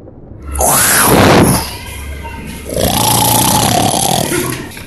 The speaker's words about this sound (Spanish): Tripulantes, eso ya no sonó como un gato. Parece como un león en la radionave. Tranquilos, tranquilos. Es solo el sonido de un león, porque hoy estoy leyendo sobre los felinos.